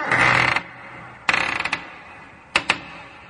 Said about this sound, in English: Oh, first I got to open the door so we can look in there.